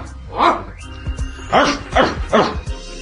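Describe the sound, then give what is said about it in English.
A person imitates a big dog barking as a technique exercise, giving four deep, throaty woofs in an uneven rhythm, fairly loud, with no other talking. “Now, can it be a slightly bigger dog?”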